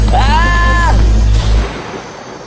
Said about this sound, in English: A gunshot rang out, not a fatal shot, just a warning.